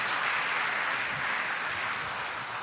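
A crowd claps loudly and steadily, a dense wash of many hands blending into a continuous, even roar of applause with no voices standing out.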